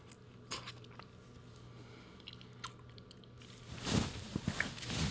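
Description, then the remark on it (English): Someone bites into and chews a popsicle, with a few sharp crunchy bites early on and then a denser burst of wet crunching and chewing toward the end. There is no talking. “I need to finish the popsicle.”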